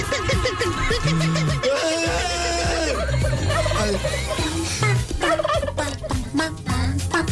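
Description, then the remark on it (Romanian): A human voice imitates a turkey's gobble with loud, rapid, warbling bursts repeated almost continuously for several seconds, dense with a steady low accompaniment underneath. “Poți să faci și ca o curcanu.”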